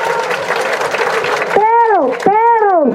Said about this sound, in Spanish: Los felicito y pido un aplauso para la zona urbana en este momento.